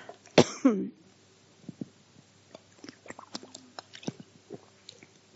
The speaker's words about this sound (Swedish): Jag ska ta lite vatten här. Jag har pratat så länge så jag blir torr. Ursäkta.